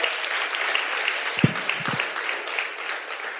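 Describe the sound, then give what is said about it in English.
A crowd breaks into steady applause, a dense wash of many hands clapping at an even loudness, with a brief voice murmur cutting through partway in. “Clap it up.”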